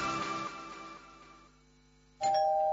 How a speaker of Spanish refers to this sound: Este es el timbre de tu casa la próxima Navidad.